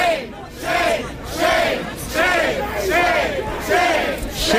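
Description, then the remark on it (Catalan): A large protest crowd at an overnight demonstration in Washington against the president's police and military deployment chants a word of shame over and over in a steady, rhythmic two-beat pattern, loud massed voices rising and falling with each repetition and no pause between chants. “Sí, aquest crit de vergonya, vergonya, vergonya sense parar és el moment que representa més bé la indignació general per la desproporció absoluta en el desplegament policial i militar del president a la capital nord-americana.”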